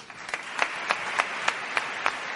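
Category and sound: crowd, audience applause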